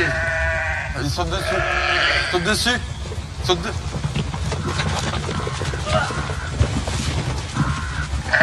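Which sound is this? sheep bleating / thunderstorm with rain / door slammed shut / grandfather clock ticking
sheep bleating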